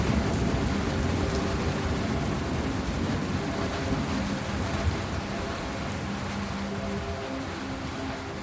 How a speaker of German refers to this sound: Ein letzter gewaltiger Donner erschüttert die Nacht. Eine wahre Explosion ist zu hören, wenn die Luft sich um den Blitz zu schnell ausdehnt. Der laute Knall war der letzte für heute.